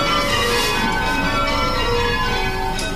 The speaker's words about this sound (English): Loud and proud, the workers here at Taylor's often spend their lunch hour ringing their own bells.